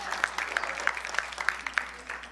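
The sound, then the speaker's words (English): An audience applauds with a steady wash of clapping, moderately loud, while a few sharper claps stand out in an even rhythm about three times a second. “It's okay to clap for that.”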